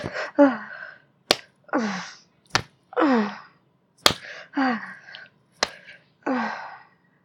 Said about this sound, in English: Would you spank my ass like this? Or maybe you wouldn't go easy on me. Maybe you'd slap the fuck out of my ass like this.